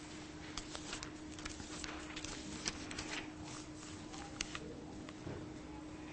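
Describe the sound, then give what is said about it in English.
Many Bible pages turning at once as people look up Genesis 9, a steady papery rustle with scattered crisp flicks, like many people leafing through books, over a low constant hum. “I try to listen for pages turning.”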